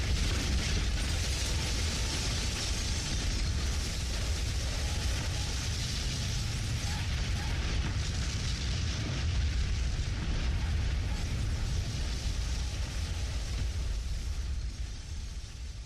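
A massive explosion of a tower roars on for the whole stretch, a loud, continuous wall of deep rumbling and harsh crackling noise with no pauses and no voices.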